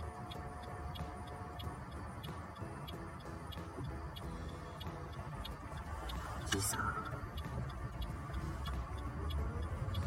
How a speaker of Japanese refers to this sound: おお、なんか車が来るな。行きたいんだけど行けんの、これ。こんな狭いところに何に車来ちゃうわけ。